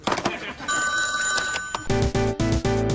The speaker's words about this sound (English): Hey, I got another call coming in. I gotta let the machine get it.